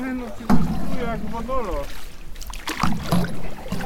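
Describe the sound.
A small boat is rowed across a pond toward the middle, with water sloshing and paddle splashes. A voice talks at the start, followed by brief bumps and rustling from the boat.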